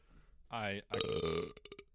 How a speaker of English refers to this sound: Nice. I almost burped that away from the microphone.